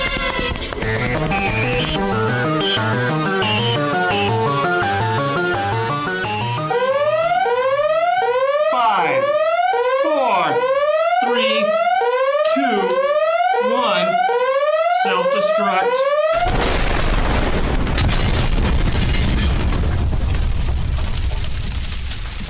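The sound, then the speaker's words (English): A spaceship self-destruct alarm blares, first pulsing electronic tones, then rapid repeating rising whoops, before a loud, roaring explosion bursts in and rumbles through the final seconds. No voices. “The only resort was to set the ship to self-destruct.”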